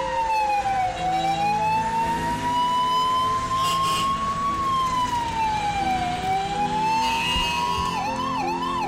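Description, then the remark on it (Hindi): A loud ambulance siren wails in long, slow rising and falling sweeps over a low engine rumble, then switches to a quicker warbling yelp near the end, as the ambulance sets off at 11:15 carrying Meena Kumari to St. Elizabeth Nursing Home. No one speaks. “11:15 बजे एम्बुलेंस चल पड़ी।”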